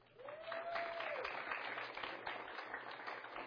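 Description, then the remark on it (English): A church audience breaks into steady, sustained applause after a baptism, praising the Lord, a dense wash of clapping hands, with a brief rising-and-falling whoop or whistle near the start. “Let's just give Him a hand.”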